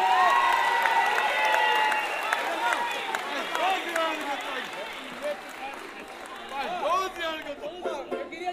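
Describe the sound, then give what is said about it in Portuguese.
A lively audience at the Samba da Vela cheers and whoops loudly for several seconds, applauding the regulars who always come, many voices overlapping above a steady patter of clapping that fades slightly toward the end. “E agora um aplauso para quem vem sempre.”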